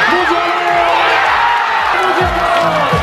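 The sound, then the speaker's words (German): A large crowd watching a football broadcast in Witten cheers, dances and sings as Germany goes 1-0 up, a loud, continuous roar with whoops and excited voices rising over the dense wash of noise throughout. “Ja, 1-0 Deutschland und alle rasten hier aus, die jubeln, tanzen, die singen.”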